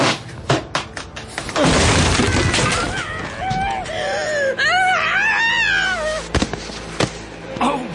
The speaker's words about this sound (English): we're going to break down the door and come in anyway